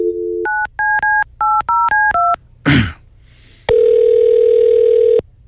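The number of a time-and-temperature phone line is punched in on a touch-tone keypad: a dial tone, then a quick run of about seven dual-tone beeps, a short noisy burst, and a long steady ringback-style tone, loud.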